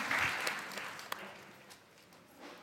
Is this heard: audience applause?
yes